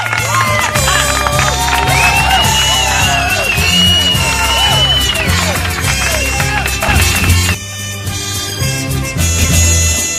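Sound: studio applause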